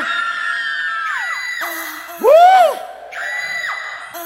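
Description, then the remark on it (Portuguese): A crowd at a band show shouts and cheers for the band's drummer from Abaiara, with sustained, overlapping high-pitched voices, and a loud whooping yell swells and falls midway before the steady cheering resumes. “Eu quero escutar esse grito.”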